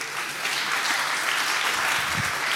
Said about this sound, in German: aber auch nochmal dafür einen Applaus.